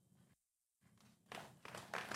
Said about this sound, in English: And you hear that people barely even clapping.